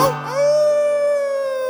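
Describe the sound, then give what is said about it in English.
A person lets out a single long wolf-like howl, sliding up quickly and then holding a steady, clear pitch, with a low sustained hum underneath. “Nice help with the wolf howling there.”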